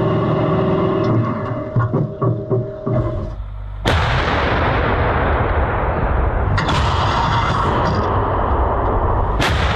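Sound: self-propelled artillery gun firing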